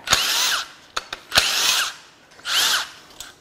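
A power tool loosening bolts on brackets of a Nissan engine fires in three short, loud bursts, each a high whirring buzz with a sharp rattling hammer onset, separated by brief pauses and small clicks, with no talking.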